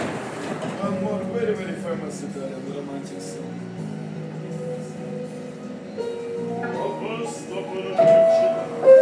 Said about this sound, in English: This for a random dude in the subway. He's actually got a decent stereo. A little bass going on.